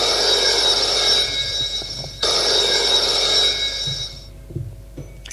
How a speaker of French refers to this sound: Le téléphone sonne.